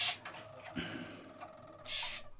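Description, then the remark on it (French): A songbird sings a rich, full-bodied, deep song, mixing sustained tones with rapid trills and bright, sharp bursts, with no voices over it. “Ça, c'est un bon oiseau. Vous entendez la profondeur du chant?”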